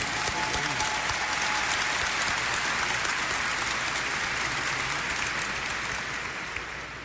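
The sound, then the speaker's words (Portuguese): A large audience applauds steadily in welcome of church guests, including a bishop, a dense wash of many hands clapping at a constant loud level that eases slightly toward the end, with no talking over it. “Nos acolhemos com uma grande salva de palmas.”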